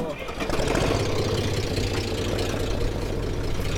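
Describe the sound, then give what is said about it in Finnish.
A Valmet tractor engine idles, a steady, loud low-pitched chugging rumble that holds an even rhythm throughout the few seconds, while brush is gathered onto its trailer bed. “Ajan tätä traktoria.”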